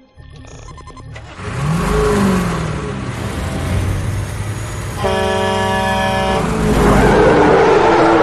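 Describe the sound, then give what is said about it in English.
A Camaro's engine revs hard and accelerates, loud, its pitch sweeping upward amid a rush of road noise, with a sustained horn-like blare cutting in partway through. “What? That's my car?”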